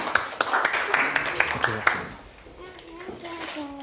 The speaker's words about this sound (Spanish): Vamos a darles un aplauso.